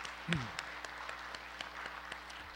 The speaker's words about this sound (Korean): 자, 우리 개명위원장과 또 수고하시는 우리 개명위원들에게 한번 감사의 박수 한번 드리십시다.